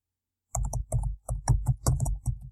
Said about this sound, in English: Yeah, because we play on Roll20. It's played by text. See, that's typing.